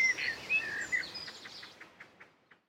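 bird, birds singing outdoors

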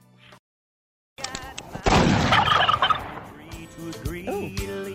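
bird, turkey gobbling

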